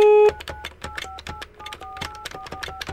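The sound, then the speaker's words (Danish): A short dial tone cuts off, then a rapid run of touch-tone beeps mixed with clicking key presses as a phone number is punched in to call Ritt, clear, with no talking. “Nu ringer du til Ritt og beder om forladelse.”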